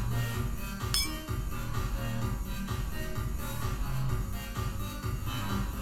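Drinking glasses clink together once in a bright toast, set against a steady wash of thumping background music and busy room noise.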